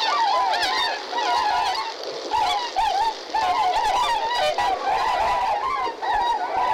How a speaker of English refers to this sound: And at Goose Pond, you're going to be hearing some tundra swans.